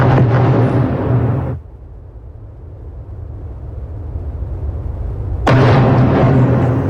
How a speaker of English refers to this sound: The conflict has expanded with Israel and Hezbollah trading fire. Loud explosions can be heard in Lebanon's capital, Beirut.